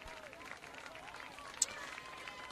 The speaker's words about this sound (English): Let's have one more round of applause for these outstanding players.